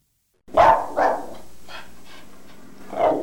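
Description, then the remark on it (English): A dog barks: two loud, sharp barks in quick succession, a few softer yips trailing off, then one more strong bark after a short pause. “When I first called upon Tanya at her home, she had a dog, and I was worried.”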